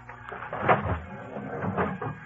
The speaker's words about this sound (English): As soon as the crowd left the depot, we walked down to the car. Crawled under it. Pounded on the door on the other side.